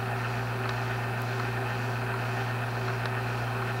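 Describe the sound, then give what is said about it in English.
A steady, droning propeller-plane engine hums continuously at a constant pitch, loud, with a strong low harmonic buzz and no voices. The plane is the Queen of the Yukon, which flew between Whitehorse and Dawson. “That is the Queen of the Yukon was a plane that was bought by a friend of mine who used to be with the Mounted Police, Andy Crookshanks.”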